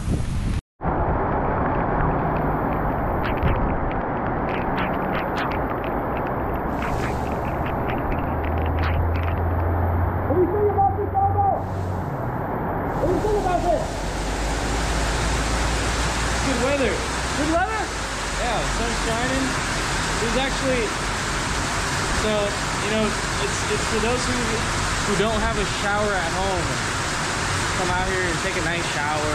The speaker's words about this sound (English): And then the rainstorm came.